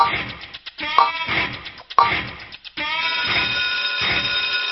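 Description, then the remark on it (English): A countdown clock timer effect for a CNN shout-out extra credit quiz question plays loud: steady rhythmic electronic pulses, with sharp accented hits near the start, then a denser sustained tone running on for several seconds without any talking. “Another 3 seconds on that clock.”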